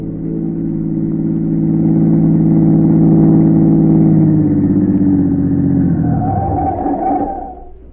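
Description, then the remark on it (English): A black car with its curtains drawn hums steadily, then its engine pitch drops and the sound winds down as it pulls to the curb in front of a church and comes to a stop. “A minute or two later, a black car, its curtains drawn, pulled to the curb.”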